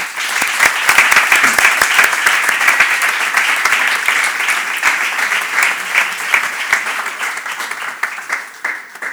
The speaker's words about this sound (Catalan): Rebem, doncs, amb un fort aplaudiment al nostre pregoner